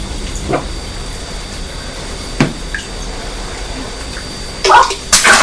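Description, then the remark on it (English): Water splashes in a bath in a few separate bursts, a light one early, a sharper one midway, then two louder, fuller splashes close together at the end, over a soft background hiss. “Whoops-a-daisy, be careful splashing.”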